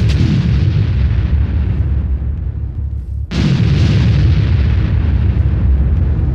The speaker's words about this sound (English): This one kick back in again. Love this breakbeat.